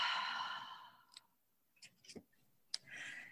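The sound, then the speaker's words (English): A long, soft deep breath drawn in and let out, followed by a few small mouth clicks and the start of another quiet breath, with no talking. “Okay, then let's take a deep one breath. Inhale, breathing. Exhale, breathe out.”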